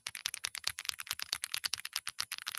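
Fast, steady typing on a mechanical keyboard, with dense clacking keystrokes that each carry a deep thump under the crisp click. It continues for a few seconds with no voices.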